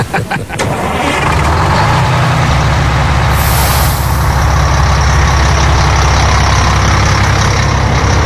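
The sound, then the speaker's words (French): A large diesel tour bus engine starts up at the source of the Jordan River and settles into a loud, steady rumbling idle, with a sharp hiss of air brakes releasing partway through. “Time to go back to the bus.”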